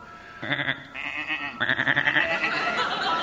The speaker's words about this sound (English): Just some sheep.